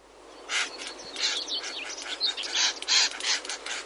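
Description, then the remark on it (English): Reed warblers give loud, harsh, chattering calls in quick repeated bursts, mixed with sharp dry clicks from snapping their beaks hard as they mob and scare off cuckoos, fairly loud with no talking. “Well, what they do is they make very loud calls and they snap their beaks with a loud clicking sound.”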